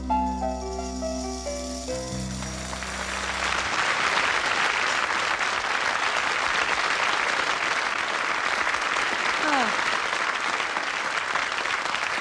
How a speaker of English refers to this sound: Thank you. You know, that's a sound I love to hear, is applause. I tell you, that's what this song, this next song, is all about. The sound of applause for the good of the cause.